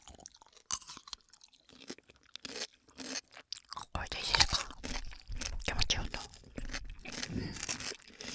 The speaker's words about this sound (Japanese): 最初もんでこう、うん、私たちの咀嚼音が、 うん、 新しい音の邪魔をするでしょう。